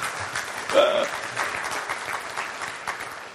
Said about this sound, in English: Amen. Okay, well, yeah. Give me a hand clap.